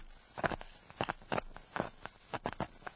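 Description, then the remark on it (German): Thick mud bubbling, a series of irregular soft pops and gloopy bursts, about one every third of a second, with no voices. “Schlammblasen.”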